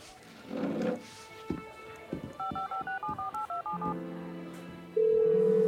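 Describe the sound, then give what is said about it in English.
A rapid run of about nine or ten telephone keypad (DTMF) tones beeps in steady rhythm as a phone number is dialed to make a call, followed by the sustained hum of a ringing line, clear with no one talking. “I have to make a phone call.”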